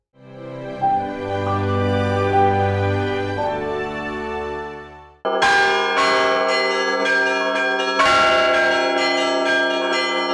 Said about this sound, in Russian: Колокольным звоном отметил Хабаровск День Крещения Руси. В полдень по местному времени в храмах краевой столицы раздались звуки благовестников.